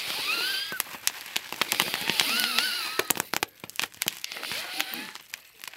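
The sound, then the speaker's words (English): Rapid, irregular bursts of sharp crackling and popping from fireworks lit at home for a holiday celebration, dense at first then thinning into scattered snaps, with a faint whistling tone weaving through the early part. “The activities we do in our house is we light fireworks.”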